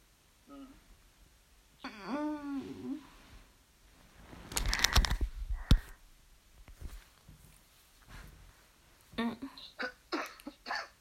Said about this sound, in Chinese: 咳嗽什么？ 咳嗽不舒服。